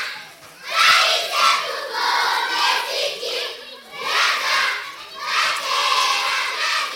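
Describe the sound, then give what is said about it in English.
A crowd of more than 200 children at school in a refugee camp, crowded onto cloth floor mats inside a big temporary building, shouting and chattering together in a loud, continuous roar of overlapping voices that swells and dips in waves, with no single voice standing out. “Children attend school here, and more than 200 crowd onto cloth floor mats inside a big temporary building.”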